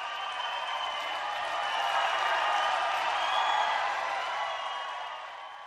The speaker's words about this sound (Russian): Секундное молчание. Зал стоя взорвался овациями.